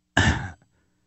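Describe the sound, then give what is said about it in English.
A single harsh, raspy cough from someone with a bad cough, outdoors at Wilmore Park, bursts out abruptly and lasts under half a second, followed by a faint little catch of breath, with no talking around it. “Sorry, I got a bad cough, too.”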